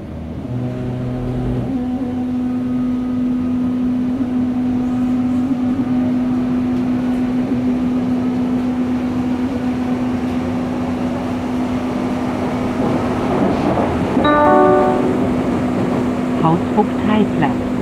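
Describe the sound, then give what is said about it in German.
A ride on Berlin U-Bahn line 2: a steady, loud rumble of wheels on track under a constant electric hum, with the motor's whine stepping through shifting pitches near the end as the train changes speed. “Ja, und dazu fahren wir erst einmal ein bisschen mit der U-Bahn-Linie 2.”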